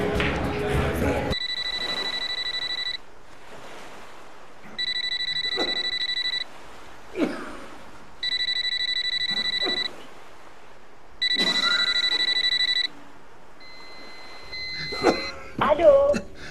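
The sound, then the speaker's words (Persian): A telephone rings with an electronic trill, repeating four times in steady bursts with short pauses between. A faint voice and some bustle come at the start and the end. “اگه بوله این مادر گوشی رو بردار.”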